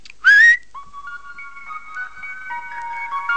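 A person whistles to call animals from all over the woods into a clearing: a sharp rising call, then a long steady melodic whistle with held tones, clear, with no talking.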